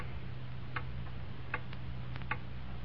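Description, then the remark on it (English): A clock ticks steadily and softly, its sharp clicks spaced evenly against a constant low hum and hiss, with no voices present. “Hear that clock?”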